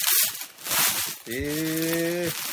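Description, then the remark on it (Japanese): Crinkly rustling of the plastic packaging around a T-shirt brought back as a souvenir from Taiwan, in a few quick bursts, followed by a sustained nasal, bleat-like voiced tone lasting about a second. “これは ソニーストアみたいなのがあって、どうぞ、ガサガサね言うと思いますけど。”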